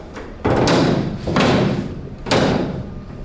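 A door is opened or slammed three times in quick succession, each a loud thud followed by a rattling, rumbling tail, spaced about a second apart with no voices.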